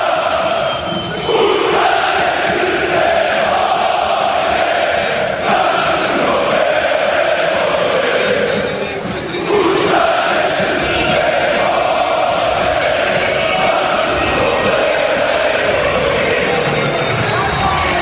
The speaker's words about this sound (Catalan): però no sé si moltes vegades hi ha una cridòria com la que sentiu ara mateix en directe a la sintonia de RAC1 des de l'Stark Arena. Ho escoltem?